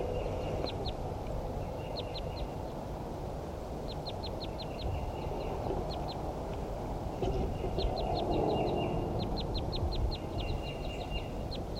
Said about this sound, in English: Two wild birds. I'm pointing at a green one. Both wild birds are females.